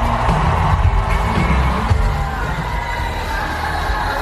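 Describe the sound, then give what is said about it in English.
A large crowd of Democrat loyalists at a rally in Raleigh, North Carolina roars and cheers as the motorcade arrives, in a steady, dense wash of voices, with occasional low thumps beneath the continuous loud noise and no clear individual speech. “And a cheer coming up. I think as the crowd can tell that the motorcade has already arrived.”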